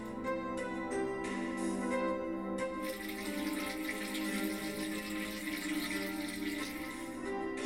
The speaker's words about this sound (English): At last, it really did pour out. The warm piss had been in my bladder for such a long time. It shot out so fast, it looked like a fountain.